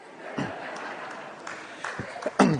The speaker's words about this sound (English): And he claps. I rest my case.